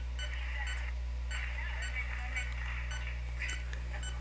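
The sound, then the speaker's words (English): The beeper of a signal-strength checker beeps repeatedly in short, regular pulses as it checks a signal that is coming on and off, over a steady low electrical hum, fairly quiet, with no one talking. “And the faster that beeper beeps, the better the signal.”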